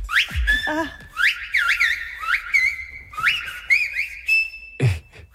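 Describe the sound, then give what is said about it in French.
A person whistles in Silbo Gomero, the whistled language of the Canary Islands, in sharp, modulated phrases, the pitch sliding up and down like speech, with short pauses between bursts; loud, with no talking. “C'est une langue qui se parle dans les îles Canaries et vraiment, les gens s'interpellent en sifflant.”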